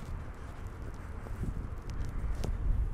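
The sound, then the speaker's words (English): Wind blowing outdoors on a cold day, a steady low buffeting rumble that swells slightly toward the end, with a few faint crunching steps or rustles over it as someone trudges forward, and no voices. “cold, kind of windy day, so we will trudge forward.”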